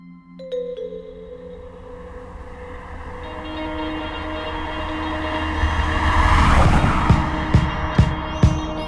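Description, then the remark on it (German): A car drives along on a warm, sunny September day on the way to the Baltic Sea, with a steady, humming engine rumble that swells louder over several seconds, with a few sharp knocks and rattles near the end. No one speaks. “Ein paar Wochen später sitzen beide im Auto.”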